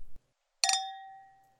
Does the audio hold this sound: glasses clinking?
yes